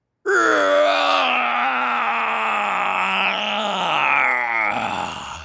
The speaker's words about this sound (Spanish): Sin embargo, se habían escuchado unos ruidos, como un gruñido fuerte y lleno de dolor.